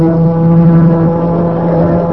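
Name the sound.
ship's fog siren sounding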